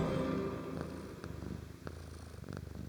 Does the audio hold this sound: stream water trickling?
no